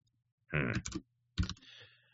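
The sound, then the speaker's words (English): Close, loud bursts of computer keyboard typing, with the microphone positioned right by the keyboard, come in two short clusters of clattering keystrokes separated by a brief pause, with no talking. “It's because the way this mic is positioned, I'm going to sit really close to the keyboard.”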